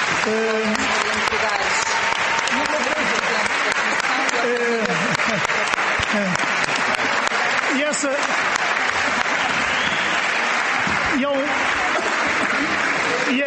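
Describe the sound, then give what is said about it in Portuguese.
An audience at a national session of the Parlamento dos Jovens (Youth Parliament) applauds the many women taking part, steadily for over ten seconds, a dense, loud wash of clapping that holds its level throughout, with faint voices murmuring underneath. “Já o ano passado também tivemos sessões nacionais presididas por senhoras, por presidentas, e acho que é extraordinário porque o Parlamento dos Jovens tem uma participação muito significativa de mulheres e acho que isso merece um aplauso.”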